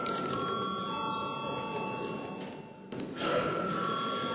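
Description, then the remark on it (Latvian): A sustained electric bell rings steadily for several seconds in the Latvian parliament, the Saeima, calling deputies to the final third-reading vote on a bill amending the Criminal Law. It is a bright metallic trill with a brief dip near the end before it resumes, with no speech over it. “Lūdzu zvanu.”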